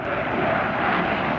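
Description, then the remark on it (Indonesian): A steady, dense roar of US Navy Blue Angels fighter jets passing overhead in Seattle at the SeaFair summer festival air show, a broad rushing rumble that holds loud and even through the whole short stretch, with no voices. “Ini adalah suara bergemuruh yang terdengar di Seattle ketika tim Blue Angels dari Angkatan Laut Amerika Serikat tiba di kota ini untuk puncak acara SeaFair.”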